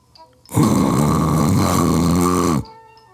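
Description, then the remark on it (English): A person voices one long, loud, rasping snore, a single sustained rattling breath of about two seconds that starts abruptly and cuts off, with near-silence before and after. “I had sat quietly through all that mess, and now I let out a big old loud snore.”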